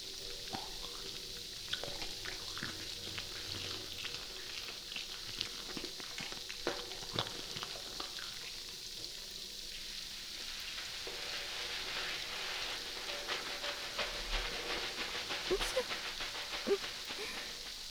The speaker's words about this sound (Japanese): シャワー失礼します。大丈夫ですか？最後なのでしっかりシャワーしますね。